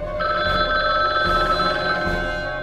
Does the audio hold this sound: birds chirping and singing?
no